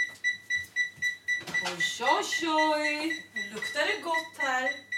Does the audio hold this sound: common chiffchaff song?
no